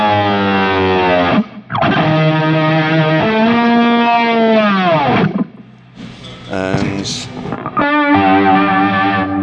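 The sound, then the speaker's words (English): A loud, screaming distorted electric guitar patch for lead moments holds sustained lead notes with a swirling, wobbling Leslie rotary-speaker shimmer, sliding between pitches in several long phrases with brief gaps, played alone. “For the lead moments, same thing with the Leslie on it.”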